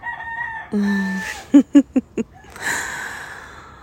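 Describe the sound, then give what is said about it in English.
A rooster crows loudly, a long rising call followed by a few sharp clucking bursts, then a softer trailing note fading into quiet background. “the roosters are telling us to go the fuck to sleep.”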